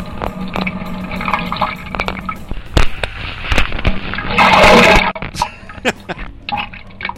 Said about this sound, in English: I'm just shitting up pure water. Listen to this. Oh my god. Kind of sounds like somebody peeing, doesn't it? It's not, though. Jigoo. Jigoo. Yeah, that's water coming out of the ass. Yeah, it sounds like urine.